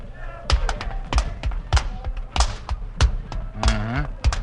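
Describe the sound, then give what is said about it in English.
Fast, fancy rope skipping footwork: a steady run of sharp slaps and thuds landing roughly every half second, with a brief voice sounding beneath them toward the end. “Skipping ropes never knocked out anybody.”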